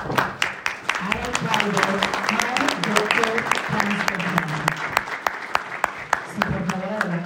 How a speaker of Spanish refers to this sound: con un fuerte aplauso.